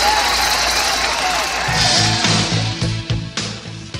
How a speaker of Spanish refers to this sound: Para ellos el aplauso que se les da a los ganadores.